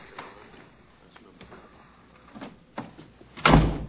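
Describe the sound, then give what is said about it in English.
A door is shut with a solid thud near the end, preceded by a few faint clicks and soft handling sounds. “Shut the door.”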